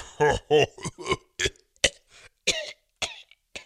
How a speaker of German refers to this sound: Was ist denn mit dir los? Ich hab Husten.